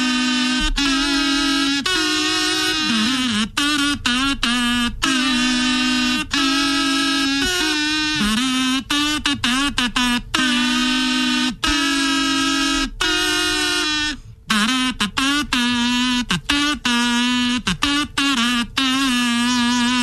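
A song played on a kazoo for a radio name-the-song segment, Kazookie-okie Wednesday: a buzzy, nasal melody with strong harmonics, moving through sustained notes and quick note changes for the full twenty seconds, loud and steady with no talking.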